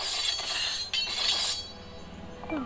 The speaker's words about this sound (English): Sounds like you sharpening your knives.